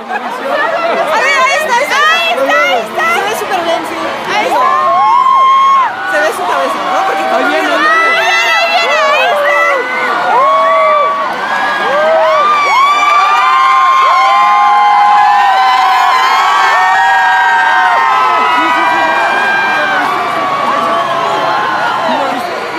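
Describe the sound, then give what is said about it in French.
A large excited crowd in Mexico City cheers and shouts as the popemobile arrives on a cold, windy evening, many voices overlapping in loud, continuous chatter with rising whoops and high-pitched cries throughout. “Soudain, une clameur résonne. Il arrive. Les gens se mettent à crier, surexcités.”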